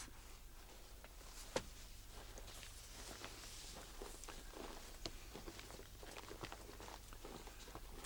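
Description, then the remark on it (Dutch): Footsteps crunch steadily through dry snow on an evening walk, a soft, irregular rhythm of crisp compressions, with a low steady hum underneath and no voices. “Dat stappen door die droge sneeuw.”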